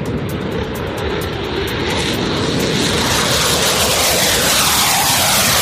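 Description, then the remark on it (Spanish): Fighter jets take off from an air base to carry out bombing attacks on Houthi rebel targets in Yemen, with a loud, continuous engine roar that swells steadily over several seconds, with a harsh hissing edge and no voices. “Esos ataques los han llevado a cabo a través de cazas que han despegado desde una base aérea”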